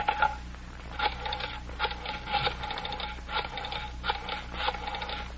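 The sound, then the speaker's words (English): A telephone being dialed: a run of short mechanical whirring, clicking bursts repeats in a steady rhythm, moderately loud, with no one speaking. “may I use your phone?”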